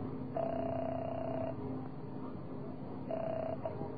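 A telephone being dialed at an airport, with two steady electronic tones over a low constant hum: a longer tone of about a second, a pause, then a shorter one, faint and without voices.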